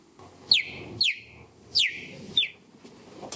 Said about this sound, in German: Also das ist kein kleines Vögelchen, das ist wirklich ein Gepard, die fiepen so.